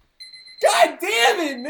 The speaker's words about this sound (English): That was the alarm I used to get up at